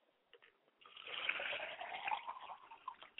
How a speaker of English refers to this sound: We pour libations to the east to bless you today, Father. We say, I say. We pour libations to the west to bless you. We pour libations to the north, Father, to bless you.